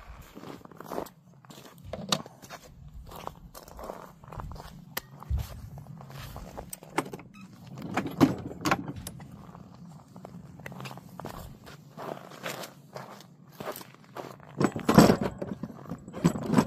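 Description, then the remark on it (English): Clicking and light clattering as a model train car is handled and slips off its track, with irregular taps and scrapes scattered throughout and no talking. “And now I got a car off too.”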